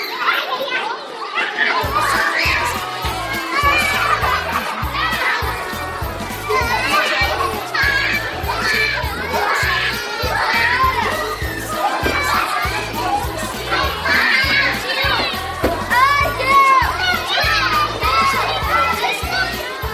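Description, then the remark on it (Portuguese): A crowd of children chatters and shouts at once in a steady, lively babble of high voices, with overlapping calls and squeals over a low rhythmic thumping underneath. “Esse carro todo enfeitado, essa criançada toda conversando aí, o que significa isso?”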